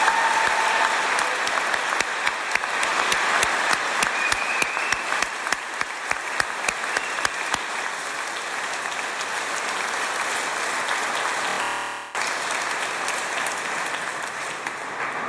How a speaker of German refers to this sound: Ich möchte mich zum Sprecher von euch allen machen und denen mal ganz herzlich danken. Kriegen die mal einen fetten Applaus, oder?